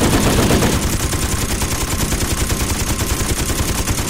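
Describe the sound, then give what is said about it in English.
A machine gun fires a long, unbroken burst of rapid, evenly spaced shots, loud and harsh from start to finish, with no voices present. “Unexpectedly, the machine gun stopped firing, and in the ringing silence, the beeping of the radar could still be heard, but different, slower and less urgent.”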